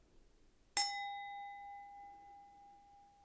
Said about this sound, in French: Et après, j'ai aussi mon téléphone fixe qui fait fa dièse sol. Donc vous entendez, deuxième note, c'est le sol, et le verre et le téléphone, ils font la même note.